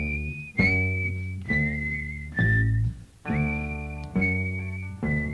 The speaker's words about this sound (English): Whistle.